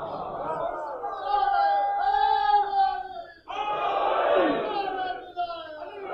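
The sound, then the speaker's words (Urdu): A large crowd chants religious slogans of wilayat in unison, two long sustained shouted phrases separated by a brief pause, loud and reverberant. “اور یہ بھی ہمارے ایک معذرت کے ساتھ المیہ ہو گیا ہے کہ نعروں میں بھی تقسیم ہو گئی ہے معذرت کے ساتھ، یہ والے وہ والے وہ والے یہ والے نعرے لگائیں گے. نہیں، یہ ولایت کے نعرے ہیں”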